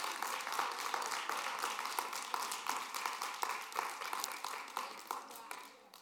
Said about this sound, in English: I dare you clap your hands if you believe the word of God.